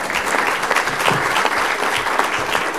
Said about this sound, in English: Okay, you can clap now.